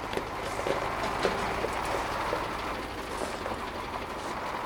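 A heavy truck rumbles at steady volume as it approaches on a road construction site, its broad engine noise mixed with faint metallic rattles and clanks, with no one speaking.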